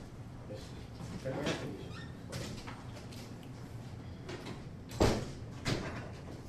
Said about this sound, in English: Let's close the doors.